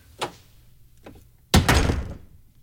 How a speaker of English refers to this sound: So, you just shut the door in his face?